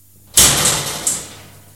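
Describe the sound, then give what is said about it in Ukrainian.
Metro train doors slide shut with a sharp pneumatic hiss and a second clunk about a second later, fairly loud, then fade with no voices. “Обережно, двері зачиняються.”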